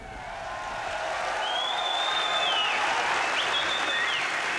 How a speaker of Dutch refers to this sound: Een warm applaus voor het ….